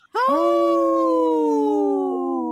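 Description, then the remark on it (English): A single wolf howls in one long, steady, loud note that drifts slightly downward in pitch and holds for over two seconds, with no voices. “In this portion of the show, we'd like to bring awareness to our Minnesota wolf population.”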